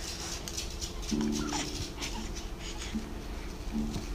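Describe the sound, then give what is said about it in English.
A baby at a kitchen table lets out a few short, strained grunts, one longer push followed by two brief ones, against a quiet indoor background with no talking. “Those are some powerful words. Thank you. Powerful grunts.”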